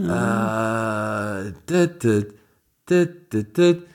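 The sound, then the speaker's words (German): A voice imitates the Skype ringtone, humming one long sustained note for about a second and a half, then a run of short, punchy bursts after a brief pause. “Das ist der Skype-Klingelton.”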